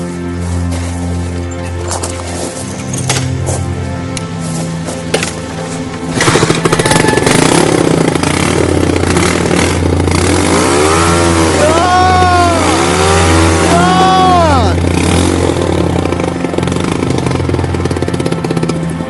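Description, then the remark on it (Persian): A motorcycle engine rumbles at idle, then grows louder and revs repeatedly, its pitch sweeping up and down in several throaty bursts. “بمون با موتورت حال.”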